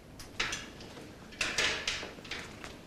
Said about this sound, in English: Bridget knocks on Daniel's glass door.